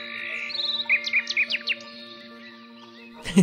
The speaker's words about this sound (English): The headband connects to the meditation app on her phone. When I bring my stress levels down and when I reach a brain state that reflects meditation, I get an auditory feedback from my phone in the sound of chirping birds.